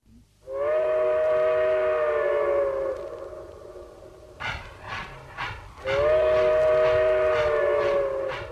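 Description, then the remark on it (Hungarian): A steam train travelling at night from Pest to Debrecen blows two long, loud, steady whistle blasts, separated by a short stretch of rhythmic chuffing as the train moves along the rails. No voices. “Éjszaka hozott a vonat Pestről Debrecenbe.”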